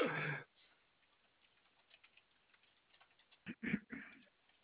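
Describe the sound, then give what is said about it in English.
Quiet, irregular clicking of keys as a customer service agent types a note on a customer's account, with a louder clatter at the start and a short burst of heavier keystrokes near the end. “I just need to leave a quick note on this account, and I will be happy to help you.”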